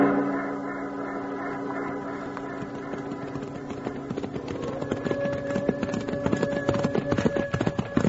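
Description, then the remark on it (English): Horses' hooves clip-clop in a steady galloping rhythm as riders set out on horseback after a howling up on a mountain. The hooves grow louder and busier toward the end, over a low sustained musical drone. “Let's grab our horses and light out after it.”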